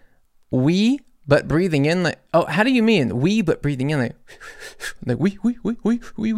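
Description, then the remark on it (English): A voice says the French word "oui" while sharply breathing in, giving a breathy, gasp-like sound amid animated talking. The inhaled word stands out as airy and hissing against the voiced speech. “We, but breathing in.”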